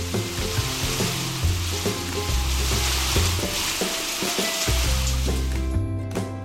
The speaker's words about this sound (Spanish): Quizás has escuchado de Yosondúa, pues tiene una cascada espectacular. Es tan alta como un edificio y por ella caen miles y miles de litros de agua, haciendo un ruido tremendo.